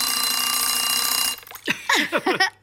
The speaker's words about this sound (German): Wie gut, dass wir auch einen Wecker haben.